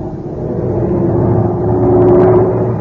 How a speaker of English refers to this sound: Listen, you suppose the pilot's okay? That sounds like trouble in his right engine.